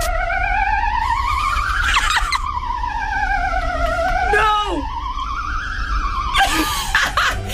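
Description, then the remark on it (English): A Belgian ambulance siren gives a loud, continuous, eerie wail whose pitch slowly glides up and down, rich in overtones, with short bursts of rough noise breaking in now and then. “Number one for …'s ambulance noises from around the world, it's Belgium.”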